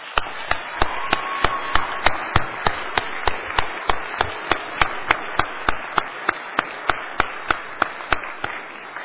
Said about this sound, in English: So I would ask that you give our staff a big round of applause.